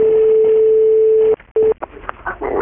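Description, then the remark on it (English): A telephone ringback tone on an outgoing call from Ireland to the Bank of Africa, heard down a narrow phone line: one long steady beep, a short pause, then the start of another brief beep before line noise takes over. “But luckily enough, I rang the Bank of Africa and got straight through to the man who's looking after”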